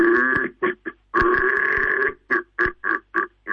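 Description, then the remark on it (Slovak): A voice imitates a red deer stag's rutting roar: one long, deep, guttural bellow, then a second drawn-out groan and a rhythmic series of short, loud grunting barks. “Takže toto bol taký pozdrav od jeleňov z všetkých domácností do automobilov, alebo kdekoľvek nás poslucháči”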